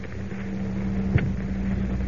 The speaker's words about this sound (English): Professor, that fan is starting up.